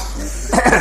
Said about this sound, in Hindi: हाँ खांस लो पहले।